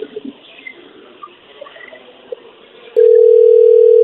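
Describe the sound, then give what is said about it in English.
An outgoing phone call to a man's phone rings with no answer: about three seconds of faint, hissy line noise, then a loud, steady ringing tone that holds to the end. “An innocent man would have answered his phone quicker.”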